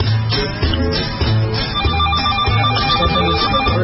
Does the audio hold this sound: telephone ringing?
yes